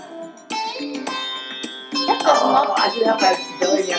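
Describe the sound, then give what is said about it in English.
Arabic-style music plays with bright, ringing melodic notes over a steady pulse, growing fuller and louder midway through. No one speaks. “This does not sound like Sanskrit. That sounds Arabic music more than anything.”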